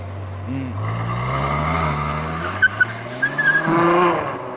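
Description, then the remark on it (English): A Ferrari sports car engine roars, its deep rumble climbing in pitch as it accelerates past, with brief high tire squeals near the end and faint voices in the background. “It's a beautiful sounding car. Look at that thing.”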